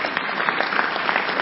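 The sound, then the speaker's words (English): A church audience claps steadily, dense overlapping handclaps forming a continuous burst of applause with no voices on top, fairly loud throughout. “You are clapping, clap well.”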